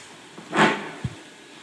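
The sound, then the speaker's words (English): A dog scratching: one short, breathy scrape swelling and fading, followed by a soft low thump, then quiet. No one speaks. “That's her scratching.”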